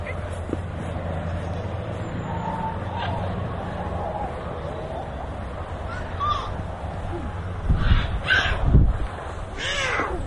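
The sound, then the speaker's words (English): Harsh parrot squawks break out in a few loud, raspy bursts toward the end, over a steady background hum and faint murmur of people. “You parrots, stay quiet. You noisy things. You noisy parrots.”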